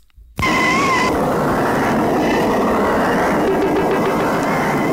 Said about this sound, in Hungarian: Megy egy autó, és nem fog a fék.